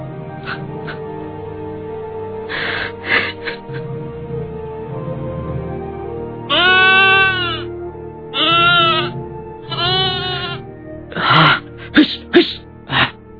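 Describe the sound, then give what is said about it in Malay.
A goat bleats repeatedly, several long wavering cries separated by short pauses, followed by a quick burst of sharper, shorter bleats near the end, with faint sniffs and snorts in between. “Jangan ngecek kamu ini. Kurang aja. Dasar kambing. Diam.”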